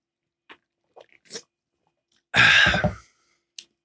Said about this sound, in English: Take a sip of my Kirkland Signature sparkling water here.